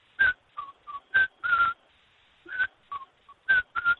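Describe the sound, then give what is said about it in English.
A person whistles the song of an unidentified bird, heard since May, which sounds like the first bars of Hansel's aria by Humperdinck: a series of short, clear notes in a bouncy rhythm, alternating higher and lower pitches with brief pauses, alone without talk. “That's what the bird sings, and I've had the earworm forever, so I want to know what bird it is.”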